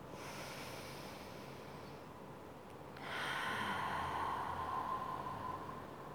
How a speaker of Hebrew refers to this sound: ובואו ניקח נשימה אחת עמוקה.